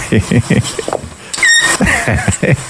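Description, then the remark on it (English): A voice makes a rapid string of squeaky, mewing baby-kitten sounds, with one thin, high-pitched squeal midway. The mews are short and repeated, loud throughout the brief clip. “Listen how cute this little baby kitten is.”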